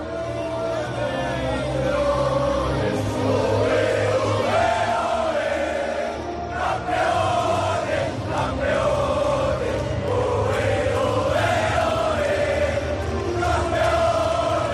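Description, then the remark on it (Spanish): The Peñíscola squad chants "campeones" over and over in a loud, steady, rhythmic unison after winning the club's first title, with shouting and cheering mixed in. It is sustained at full volume for the whole stretch, after the match in a pavilion in Murcia. “Este era el cántico, los gritos de campeones, campeones, de toda la plantilla dirigida por Santi Valladares.”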